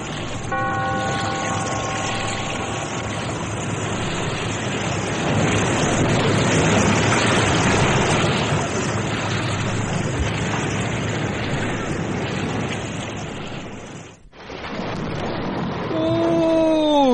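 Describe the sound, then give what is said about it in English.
Restless sea waves surge and roar steadily and loudly, echoing in a lonely cave by the sea in The Weird Circle radio drama, with faint musical tones at the start and a brief drop before the surging resumes. “Be here in this lonely cave by the restless sea once again next time for another immortal tale in The Weird Circle.”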